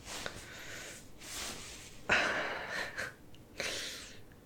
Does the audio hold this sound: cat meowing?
no